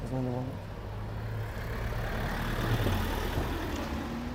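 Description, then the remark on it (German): A car engine rumbles steadily as the car arrives on a town marketplace, a low hum that swells slightly toward the end as it approaches, with faint outdoor background noise and a voice briefly at the start. “Das hier ist der Marktplatz, da kommt gerade ein Wagen.”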